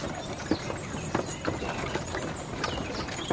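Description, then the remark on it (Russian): Horse hooves clip-clop at an unhurried walking pace as a horse pulling a cart walks slowly into a field, a steady series of crisp knocks about twice a second over a constant outdoor hiss. “Тэ забрался в телегу, и лошадь неторопливо пошла в поле.”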